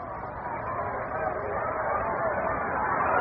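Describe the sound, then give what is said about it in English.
A ballpark crowd at the Polo Grounds applauds as Chicago Cubs batter Bob Anderson steps into the batter's box, in a steady, dense wash of clapping and murmuring that holds even throughout, with a muffled, narrow tone and no distinct voices standing out. “Gets a round of applause here at the Polo Grounds as he steps into the batter's box.”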